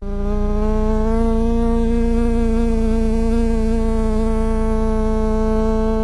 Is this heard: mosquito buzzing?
yes